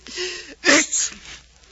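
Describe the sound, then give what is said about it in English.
A single loud sneeze from a person suffering from a cold: a short voiced intake of breath, then a sharp explosive burst that trails off into a softer breathy exhale. “Gesundheit.”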